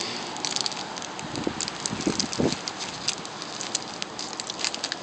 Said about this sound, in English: It's probably picking up a lot of ambient wind noise, though. Because it's very windy today.